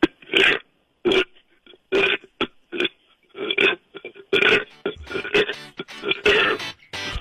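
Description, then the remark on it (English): A man burps on command on the John Jay and Rich radio show, 104.7 KISS FM, letting out a rapid string of loud, close belches in uneven bursts over several seconds, as if shaping syllables with each one. “You cheered up our day burping on command.”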